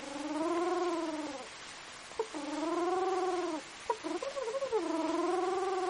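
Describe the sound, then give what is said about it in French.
A pigeon coos in three long, warbling calls, fairly loud, with brief clicks and soft rustles in the short pauses between them. “Le petit pigeon.”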